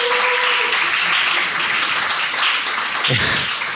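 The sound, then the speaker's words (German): A crowd applauds steadily for a few seconds, a dense, loud wash of many hands clapping at once with no pauses and no clear voices over it. “Ich habe jetzt mal nicht geklatscht, weil das muss ich schon in den letzten 10 Folgen jetzt.”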